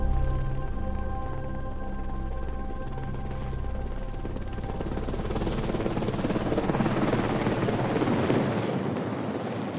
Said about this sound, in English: And then when we were almost down, the helicopter came and hovered directly above us, and the winchman came down and landed just in front of us, which was quite exciting if we hadn't been so upset, with a camera in his hand.